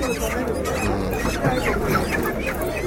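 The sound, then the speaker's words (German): A dense, busy din of many chickens clucking and squawking at the Morgada live poultry market, with overlapping calls and background voices blending into a constant crowded market bustle. “Stattdessen gibt es den lebendigen Hühnermarkt Morgada.”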